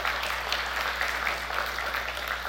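An audience applauds steadily for a few seconds, a dense, even patter of many hands clapping at once with no voices over it.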